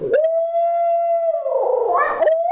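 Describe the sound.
A person imitates a loud owl call, holding one long, steady hoot that then breaks into a rougher, wavering rise before cutting off. No other voices are heard.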